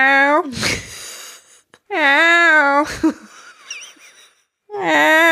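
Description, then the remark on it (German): A person imitates the meow of a cat that keeps coming in during recording, with three drawn-out, whiny vocal calls, each rising and falling in pitch, separated by short pauses and a few breathy sounds. “Und diese Katze kommt zwischendrin immer wieder rein und macht dann so.”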